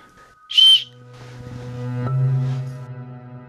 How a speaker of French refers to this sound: Voilà mon petit couteau suisse avec son sifflet que j'ai toujours autour du cou, et si je l'ai pas, je me sens mal. Je l'ai toujours autour du cou.